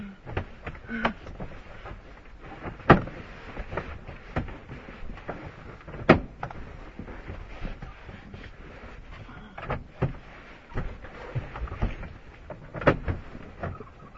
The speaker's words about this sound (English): Door is stuck again. These old cars.